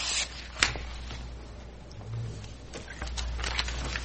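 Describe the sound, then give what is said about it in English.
Papers are shuffled by hand during a public meeting, rustling in short, crinkly bursts, with one sharper crackle early on, all over a steady low hum. “I'm shuffling my papers here.”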